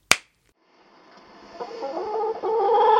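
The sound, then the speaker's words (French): A sharp click, a brief pause, then a rooster's drawn-out call that swells steadily louder, heard on its own with no voices. “Cet œil de coq me cloue sur place.”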